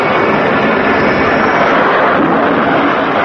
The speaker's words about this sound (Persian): هواپیماهای شکاری ایران بر فراز این سه جزیره در پرواز بودند.